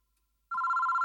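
A telephone bell starts ringing abruptly about halfway through, a loud, steady electronic trill with a fast shimmering pulse, alone with no voices.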